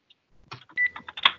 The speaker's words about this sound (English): I'm hearing some beeping.